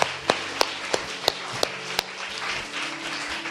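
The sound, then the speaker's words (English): An audience gives God a round of applause in a dense, steady wash of clapping, with a few sharp, evenly spaced claps standing out during the first two seconds before the sound settles into a continuous patter. “And so let's give God a round of applause, huh?”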